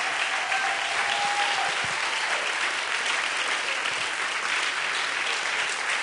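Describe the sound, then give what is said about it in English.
Steady applause from a crowd for the people from Fort Atkinson fills the whole six seconds, a dense crackle of many hands clapping at an even loudness, with a faint tonal whistle briefly audible early on. “Let's give these folks a hand clap.”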